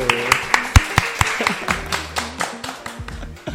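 A burst of audience clapping with sharp, irregular claps of varying loudness, some standing out over a lively, bright backdrop of hand claps that fades slightly toward the end.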